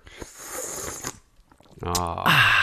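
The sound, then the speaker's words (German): Someone slurps Feuerzangenbowle, a hot punch drink, into the microphone for about a second of wet, noisy sipping, followed by a short pause and then a voiced, satisfied-sounding exhale or voice. “Ich schlürfe mal ins Mikrofon.”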